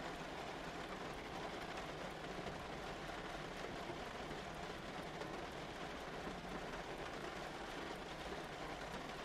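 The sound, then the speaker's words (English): Steady rain trickles down storefront windows in a continuous rushing, crackling wash, even throughout with no voices, a soft constant patter filling the whole span. “the rain, which is trickling down the storefront windows with a rushing, crackling sound, which reminds you, such is the coziness in here, of the sound a fire makes, burning logs in a hearth.”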